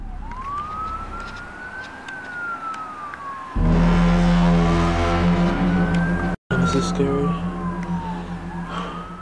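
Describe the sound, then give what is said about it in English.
A police siren wails up and down steadily in a city. Partway through, a loud, low, droning bass-heavy horn swells in, filling the sky outside an apartment, and the siren keeps cycling over it. “Police sirens and cop cars could be heard riding all around as panic breaks out in the city.”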